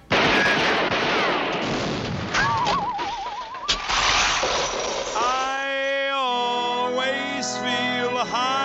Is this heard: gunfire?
yes